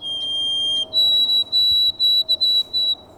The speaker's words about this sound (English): Cody Little played a recording of the sparrow's song from the Merlin app.